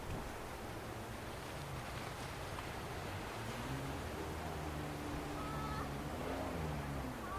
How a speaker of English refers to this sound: Yes, the sound of water. Now, if that didn't give it away, I don't know what will.